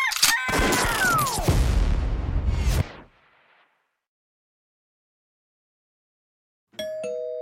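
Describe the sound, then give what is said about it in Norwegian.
In a Norwegian radio advert for the Meny online grocery store, a loud, booming crash with a falling whine fades into silence, then a bright doorbell chime suddenly sounds, its steady tone ringing out over the final second. “Bare sitt i ro, det ringte ikke på.”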